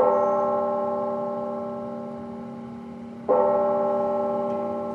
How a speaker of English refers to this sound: Today in Chattanooga, Tennessee, a somber moment. Late this afternoon, several churches and chapels rang their bells.